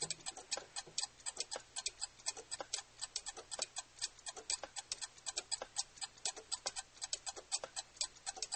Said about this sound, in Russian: Наступила гнетущая тишина, в которой слышно тиканье карманных часов.